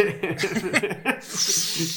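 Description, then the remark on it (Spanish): Wet gurgling slurps of mate drawn through a metal straw, ending in a long, airy sucking hiss as the gourd runs dry. “Ruidos de mate.”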